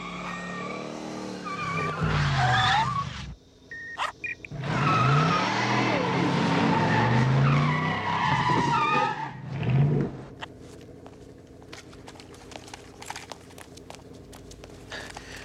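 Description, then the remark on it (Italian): A car roars and accelerates with loud, screeching tires skidding in long bursts, then the engine fades and a few faint clicks and taps follow in near quiet. “Non me, la macchina, la macchina!”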